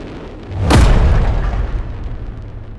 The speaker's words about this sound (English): The explosion was so loud that Matt was sure his heart stopped for a moment.